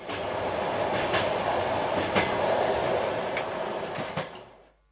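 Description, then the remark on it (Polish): A steady rumble from inside a moving train carriage on the Trans-Siberian railway, with sharp rail clacks every second or so over the constant roar. The noise fades out at the end, and no one speaks. “Ja za chwilę może się położę, ale już chciałem Państwa pożegnać i chciałem zaprosić do podróżowania kolejami transsyberyjskimi, szczególnie z salezjańskim wolontariatem misyjnym z liceum we Wrocławiu.”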